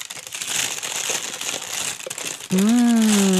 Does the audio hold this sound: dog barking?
no